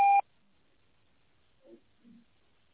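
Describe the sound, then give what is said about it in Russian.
A single short electronic voicemail beep, loud and clear, signals the start of message recording at the very start, then near silence with a couple of faint, soft noises afterward. “Запись сообщений начнется после сигнала.”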